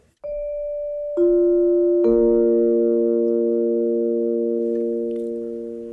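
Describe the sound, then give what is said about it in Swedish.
A Sveriges Radio time signal in Sweden marking 11 a.m.: three clean electronic tones enter one after another and stack into a steady, sustained chord that slowly fades. No voices. “Än så länge är det förmiddag. Klockan slår nu 11.”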